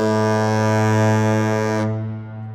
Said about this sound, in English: See those horns on the base of the bridge structure there? And so where are they? What sound comes from what? Well, there's the South Tower, which has one horn, a deep, rich, long blast.